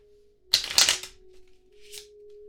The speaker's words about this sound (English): Now, let's take the card and put it back in the deck. We'll cut the deck here and here. Give it a shuffle.